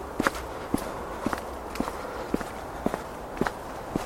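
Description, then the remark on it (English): Steady footsteps walking along a canal path on the leafy outskirts of Birmingham, heading back towards Birmingham, about eight even, crunchy steps at a relaxed pace over a constant low background hum, with no talking. “So we'll have a wander back towards Birmingham.”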